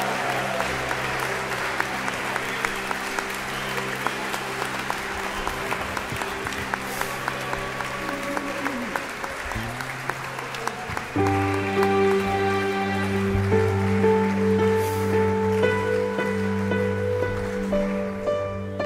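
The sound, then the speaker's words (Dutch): An audience claps and cheers for Jesus in a dense, steady wash of applause, while sustained keyboard chords play underneath and swell louder partway through. “Laten we voor hem juichen.”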